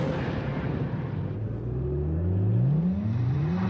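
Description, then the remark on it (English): A deep V8 engine in a 9-year-old car revs up loudly, its throaty pitch climbing steadily as it accelerates, with a continuous rumble throughout and no voices. “We took the power of a 9-year-old V8 and gave it the impressive handling of Firestone's Destination tire.”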